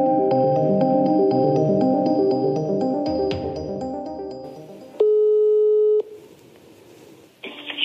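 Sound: telephone ringback tone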